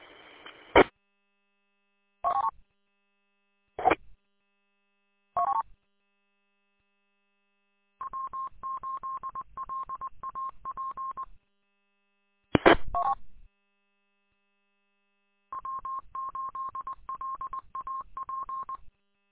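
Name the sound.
telephone call dialing tones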